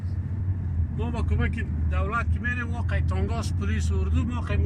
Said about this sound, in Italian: Saliamo a bordo di una Toyota Station Wagon bianca, scortati da altri veicoli uguali, che lui descrive come i loro unici mezzi corazzati.